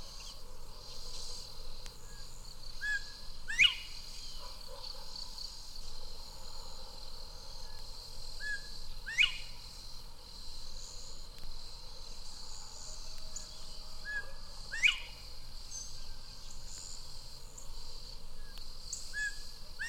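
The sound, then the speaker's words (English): A bobwhite in the southern United States whistles its own name four times at steady intervals, followed by its rally call: each a short soft note followed by a sharp, loud upward-sweeping whistle, over a constant high drone of insects. “In the southern states, the favorite is the Bob White, and it now whistles its own name, followed by its rally call.”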